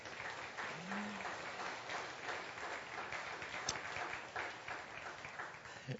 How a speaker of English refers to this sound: We ought to give them a big round of applause.